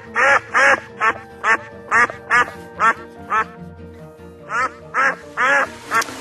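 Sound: ducks quacking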